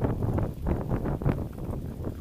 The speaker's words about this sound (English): So, it's really foul. Oof. Listen to the water going down the drain, listen.